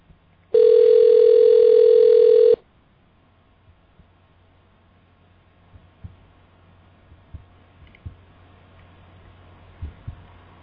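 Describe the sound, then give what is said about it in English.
A single loud, steady electronic ringback tone of an outgoing phone call placed live on air plays for about two seconds, unanswered, then cuts off into near silence broken only by faint scattered clicks and thumps. “Can you guys hear that ringing there in the chat room?”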